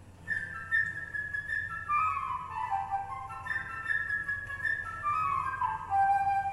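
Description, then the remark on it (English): A flute plays the bird's theme in a story where each character is represented by a different instrument: a bright, high melody of quick fluttering phrases that repeatedly rise, then slide downward, over a low steady hum, with no one speaking. “Each character in this story is represented by a different instrument. The bird by the flute.”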